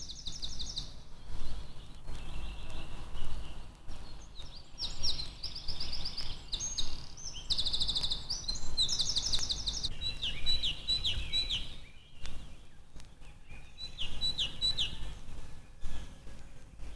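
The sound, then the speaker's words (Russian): A wren perched on dry fallen branches sings a long, rapid song of high trills and twittering notes, bright, rising and falling in bursts over a low background rumble. “Сидя на сухом валежнике, поет крапивник.”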